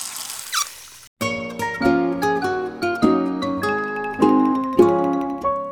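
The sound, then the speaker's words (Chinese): Water runs with a steady hiss, then a tap gives a short squeak as it turns and the flow cuts off abruptly. A bright, plucky melody starts right after. “赶紧关好水龙头，到人间巡视灾情啦。”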